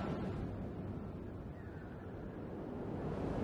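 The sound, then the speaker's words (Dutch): A steady, dense roar of sea surf breaking on the shore, low and rushing without distinct individual crashes, like continuous breaking waves, with no voices present. “Je hoort de zee. De golven. Het geruis van de branding.”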